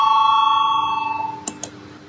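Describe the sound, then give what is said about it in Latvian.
A parliamentary voting bell rings out before a vote on proposal number 118, in a single clear, sustained chime that slowly fades, followed by two sharp clicks near the end. No one speaks over it. “Lūdzu zvanu, balsosim par 118. deputāta Klementjeva priekšlikumu.”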